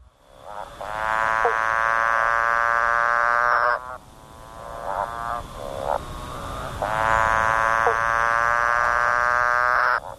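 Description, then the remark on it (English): A growling grass frog gives two long, buzzy, droning growls, each about three seconds, with a few short grunting notes between them. It is fairly loud, with no talking. “The frog, the bell frogs, that component is more exaggerated because that's why they call it the growling grass frog, because it goes.”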